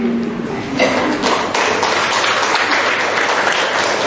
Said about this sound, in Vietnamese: Rồi, chị em cho một tràng pháo tay.